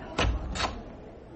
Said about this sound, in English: it's a bit stiff, this door. Oh, hold on.